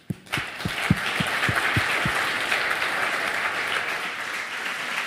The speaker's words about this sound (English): So if you'd like to give them a round of applause, please.